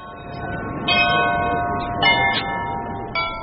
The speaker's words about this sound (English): Those are the bells of St. Michael's Cathedral